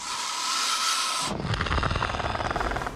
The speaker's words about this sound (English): Well, that is an angry goose.